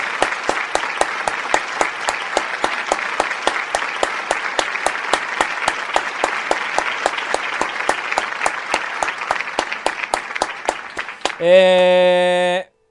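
Steady, dense applause from an audience fills about eleven seconds at a consistent loudness, then gives way to a brief sustained musical tone at the very end.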